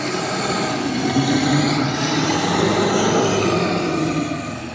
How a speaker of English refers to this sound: As you do so, Sebastian, you hear a loud, guttural growl.